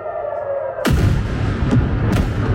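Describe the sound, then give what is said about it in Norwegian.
A sudden heavy blast from a missile strike erupts after a low steady hum, followed by sustained rumbling and a second sharp explosive crack near the end, loud and booming, during overnight attacks between Israel and Iran. “Og Israel og Iran har holdt frem med å angripe hverandre gjennom natta, og det har vært eksplosjoner flere steder i begge landene.”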